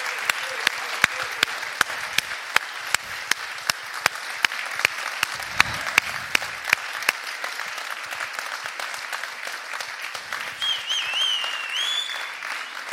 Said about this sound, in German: Ja, gebt unserem Gott mal einen Applaus. Und zwar einen Applaus, der ihm würdig ist.